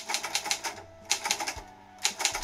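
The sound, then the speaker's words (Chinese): A typewriter clacks in quick runs of sharp keystrokes, pausing briefly between bursts before the rapid tapping resumes; no one speaks. A priest is typing letters in his room at midnight. “神父，这么晚了，您怎么还在打字呢？”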